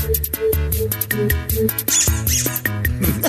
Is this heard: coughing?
no